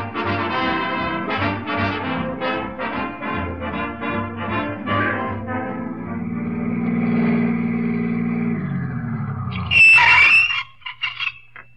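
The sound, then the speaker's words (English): A car engine chugs and revs in pulsing bursts, settles into a steady drone, then a loud, sharp screech from the car's brakes, which need fixing, near the end gives way to a few short thumps. “To get them brakes fixed.”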